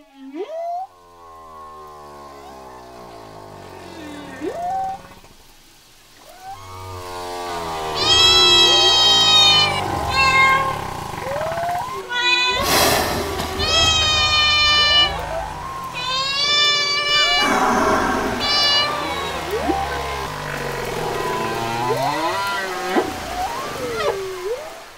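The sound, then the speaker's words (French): Cat meows blended with eerie whale calls, starting with a few sparse sweeping cries, then swelling into a loud, dense, overlapping chorus of wavering, gliding tones that continues to the end. “Connaissez-vous le chat baleine? C'est un animal qui a des oreilles de chat et de queue de baleine.”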